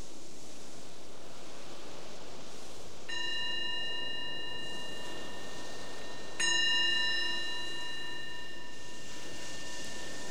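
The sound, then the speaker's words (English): Two strikes of a meditation bell during a guided meditation, a few seconds apart, each ringing out with a bright, sustained metallic tone that slowly fades over a soft background hiss; no one speaks. “So the ringing of the bell is our invitation to let go of whatever was going on before and just be present right here, right now.”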